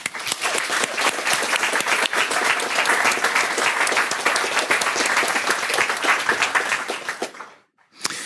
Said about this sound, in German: Und wir wollen nämlich noch unsere Designerin gratulieren, dass sie wirklich den Baum sehr toll gezeichnet hat. Und da bitte ich nochmal um Applaus.